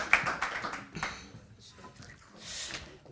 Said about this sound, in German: Super. Applaus für die zwei. Danke vielmals.